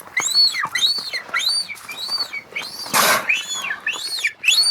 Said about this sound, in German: Wir hören uns jetzt erstmal an, wie sich Beluga-Wale normalerweise anhören. Für alle da draußen, Beluga-Wale, das sind die Weißen, die so eine sehr prominente Stirn haben.